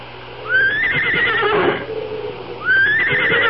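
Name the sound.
horse neighing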